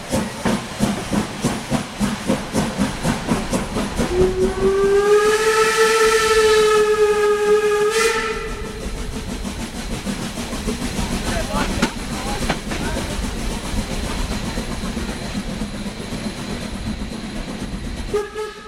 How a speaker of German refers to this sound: Die andere ist gerne gefahren, aber das war die Baureihe 52, deutsche Baureihe. Die gab es bei uns 100 Stück, davon in Schopron, in meiner Heimat BW 18.